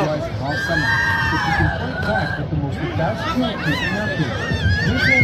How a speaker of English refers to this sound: It's just a video of the sharks and the people in the boats freaking out.